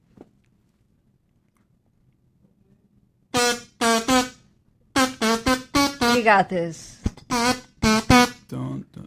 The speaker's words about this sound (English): It's the kazoo's fault, all right? It's the kazoo.